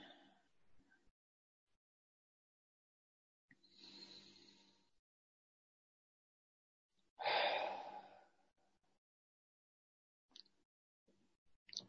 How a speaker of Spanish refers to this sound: Entonces te invito a cerrar los ojos un momento, a poder hacer unas dos o tres respiraciones más profundas, inhalando por la nariz, cerrando, exhalando por la boca.